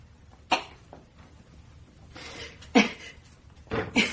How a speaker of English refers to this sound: You see, I was most anxious to get hold of that recording to find out if they managed to get rid of that ugly little cough. As you've heard, they didn't. The recording captured everything, everything